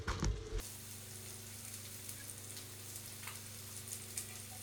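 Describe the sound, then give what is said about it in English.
Cracked eggs sizzle steadily in a frying pan, a constant crackling hiss with a low hum underneath, after a brief louder clatter at the start. “Okay, so the eggs are now cracked and all around it, and then this is the bit that I really like about it.”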